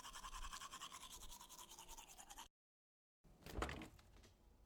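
Steady scrubbing of a toothbrush in quick rhythmic strokes as someone brushes their teeth after a shower while opening the fridge, a brief silent gap, then a louder clunk followed by softer scraping brushing.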